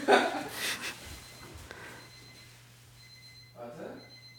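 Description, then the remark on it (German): A faint electronic alarm clock beeps in repeated high-pitched bursts in the background, with a snort and some breathy noise near the start. “Kann es sein, dass dein Wecker klingelt?”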